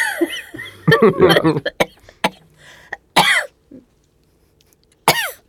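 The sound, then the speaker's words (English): Several sharp coughs come in uneven bursts, a cluster early on and then two isolated hacks, with brief throat-clearing sounds and quiet pauses between them. “Well, I coughed.”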